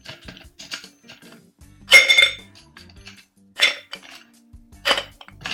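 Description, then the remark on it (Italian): Ice cubes drop and clink against metal bar tools to chill them while preparing a Sex on the Beach cocktail, three bright clattering bursts near 2, 3.7 and 5 seconds among lighter ticks and scrapes, with no talking. “Oltretutto il ghiaccio servirà per shakerare, quindi ecco qua, mettiamo qui e mettiamo anche due cubetti di ghiaccio.”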